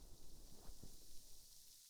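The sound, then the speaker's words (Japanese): Soft, steady fizzing of a carbonated drink in a glass, a faint continuous hiss with tiny crackling pops, quiet, no voices. “炭酸パチパチパチパチ。”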